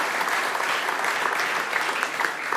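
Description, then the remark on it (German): An audience breaks into steady applause for the money raised by the Kigo-Aktion held in the foyer after the service, a dense wash of many hands clapping at an even loudness throughout, with no one speaking over it. “Und das ist auch nochmal ein Applaus wert.”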